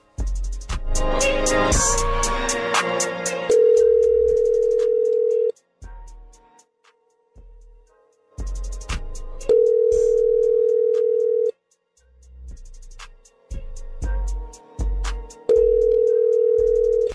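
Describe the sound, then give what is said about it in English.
An outgoing call ringing on the line: three steady, mid-pitched ringback tones, each about two seconds long, separated by longer pauses, with clicks and rustling noise in between and no voices. “So the least we can do is call the son of a bitch back.”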